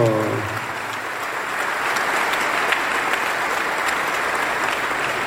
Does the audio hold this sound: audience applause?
yes